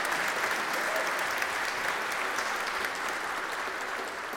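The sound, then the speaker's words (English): A church audience applauds steadily, a dense wash of many hands clapping at a sustained, fairly loud level throughout, with no speech over it, welcoming a new full member into the community of faith. “Yes, a round of applause.”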